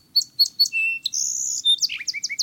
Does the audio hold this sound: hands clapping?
no